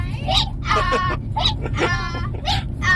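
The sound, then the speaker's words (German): Petting zoo animals bleat repeatedly, several wavering, overlapping calls in quick succession over a steady low rumble in the background. “Also ich würde sagen, es ist ein Streichelzoo.”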